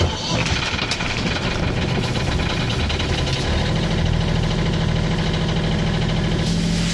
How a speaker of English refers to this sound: All right, starting the engine. Woohoo!